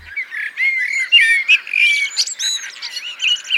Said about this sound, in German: Blaumeisen, wahrscheinlich auch Stieglitz, die ihre Nester in unserem Efeu haben, die kann ich wohl erkennen. Rotkehlchen haben wir auch jedes Jahr ständig, was hinter meinem Mann herläuft. Es ist einfach schön, das zu hören, morgens und abends.